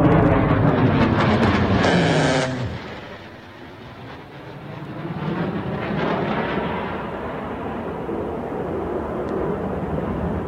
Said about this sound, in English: This is an F-18 that is strafing the eastern shoreline of Iran. And you're going to hear the fighter jet strafe and then a shoulder-fired MISAG, man-portable anti-aircraft system, fired at it.